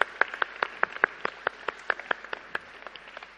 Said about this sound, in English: Give a round of applause for our brilliant helpers.